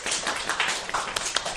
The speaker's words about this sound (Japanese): ありがとうございます、拍手。